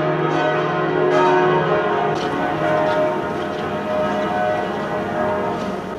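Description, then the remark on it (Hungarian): Church bells swinging in the open bell tower of the basilica in Loreto, Italy, ring loudly in a full, continuous peal, overlapping strokes blending into a dense, resonant wash of sound with no voices present. “Látszanak a harangok, a harangtorony nyitott, billegnek a harangok. Minden ütésnél megjelenik az ablakba a harang, lendületben van.”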